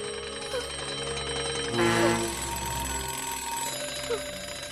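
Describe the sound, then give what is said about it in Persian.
Several alarm clocks ring together in a dense, continuous clatter of bright, metallic tones. The ringing holds steady throughout and swells louder for a moment near the middle. “دوباره همه این ساعته زنگدار دارن به یه کابوس تبدیل میشن.”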